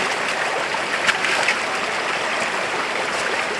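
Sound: flowing creek water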